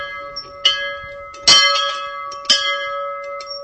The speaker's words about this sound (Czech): Řadu z nich zaujme i zvon a říkají si, co dělá v pivovaře. Když byla nová várka dokončena, tak každý právovárečník zval své sousedy, aby ochutnali novou várku piva, a zvonil právě na tento zvonec.